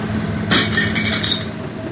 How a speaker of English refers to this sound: The car went over the doll and made a crunching sound as it broke. Then the car moved forward, making another crunching sound.